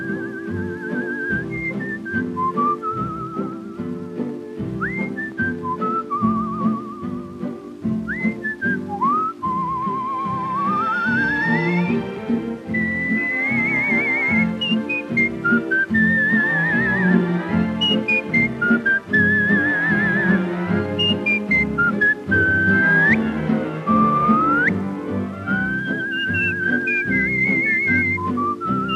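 Clear, melodic whistling from a film carries a bright tune over a steady band accompaniment, with sliding notes and trills; two whistlers perform a duet, the whistled lines trading off.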